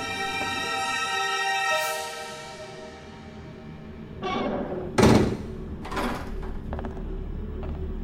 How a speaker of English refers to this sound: Shut the door behind me.